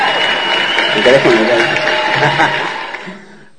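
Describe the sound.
A burst of clapping from a group, dense and steady for about three seconds before quickly fading out, with some voices mixed in underneath.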